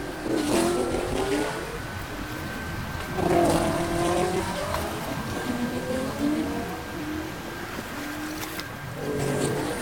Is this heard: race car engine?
yes